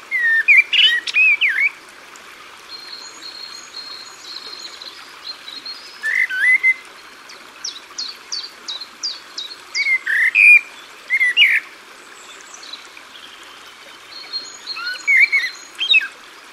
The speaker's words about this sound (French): Merle noir est un très bon siffleur, très bon chanteur, et en plus il chante par petites strophes. Et il s'arrête, et il refait une autre strophe. Alors il chante par exemple 4 secondes, et puis il s'arrête 4 secondes pour écouter les autres oiseaux,